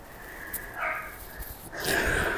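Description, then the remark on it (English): A dog barks faintly, two drawn-out, somewhat whiny calls about a second apart, with no one talking. “I think the dog heard me.”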